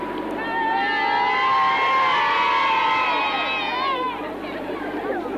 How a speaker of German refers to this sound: So hört sich der Jubel aus britischen Kinderkehlen an, die ihre Fähnchen, nicht nur die englischen, sondern die Fahnen des Commonwealths hier schwingen.